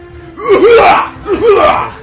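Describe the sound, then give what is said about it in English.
A person does an impression of another man's real cough: two raspy, voiced coughs with a brief pause between them, loud and with no talking over them. “No, it's a real cough. You guys want to hear it?”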